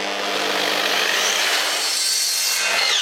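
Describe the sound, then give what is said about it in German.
A saw cutting wood to length for a side piece of a little owl nesting tube, at the old Hof Schoppmann farm: a loud, steady, continuous rasping with a low hum beneath it and a faint rising whine toward the end. No one speaks. “Ich lenke die mal eben ab.”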